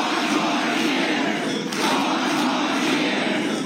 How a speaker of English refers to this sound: President Biden was greeted in Pennsylvania with a roaring crowd on the day after his fiery State of the Union address.